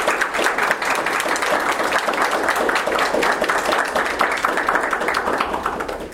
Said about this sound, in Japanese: 今一度大きな拍手を持ってお願いします。